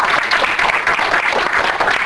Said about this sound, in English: Let's get another round of applause.